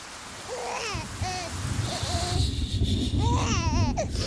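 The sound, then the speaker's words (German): A newborn baby cries at night in a series of short, wavering wails that rise and fall in pitch, over a steady low rumble of background noise. “Und spielt nachts und die beiden sind wach, weil das Kind schreit.”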